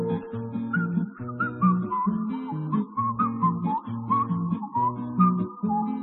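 A high, gliding melody is whistled over steady backing music with repeating chords. The tune wanders through short phrases at a moderate volume for the whole stretch, with no voices.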